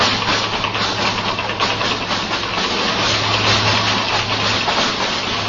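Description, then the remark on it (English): The engine of a small car being driven up Sunset Boulevard runs steadily, a constant low hum beneath a broad mechanical rush, with a faint repetitive engine knock buried in the noise. No one speaks. “And I didn't notice it at first, but then gradually, very quietly, I began to hear the faintest little knock in my engine.”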